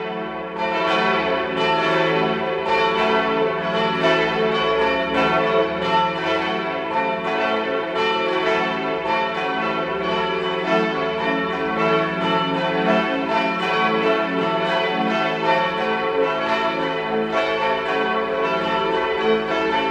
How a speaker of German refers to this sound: Es ist 12 Uhr. Sie hören die Glocken der Pfarrkirche Maria am Gestade in Innsbruck.